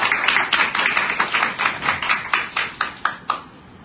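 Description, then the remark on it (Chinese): An audience at a panel event applauds to welcome a legislator, with dense, crackling clapping that gradually thins out, ending in a handful of separate, sharper claps. No voices are heard. “所以我们是不是最热烈的掌声来欢迎我们的议员苏南旺杰。”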